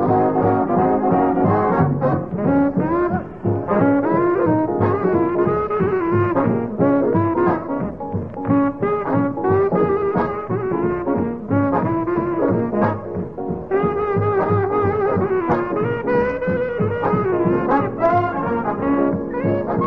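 A saxophone plays a loud, continuous solo, its bluesy melodic runs bending and wailing over a steady band backing, with no singing or talking throughout.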